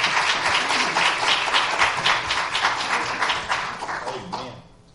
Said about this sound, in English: Love Jesus with a hand clap of praise this morning, if you would.